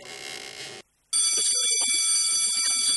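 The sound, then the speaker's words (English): A homemade electric alarm bell, set off by stepping on a loose plank, rings loudly and continuously with a harsh metallic clatter, cuts out for a moment, then resumes even louder and keeps ringing, with no voices. “A neat little alarm, isn't it, young man?”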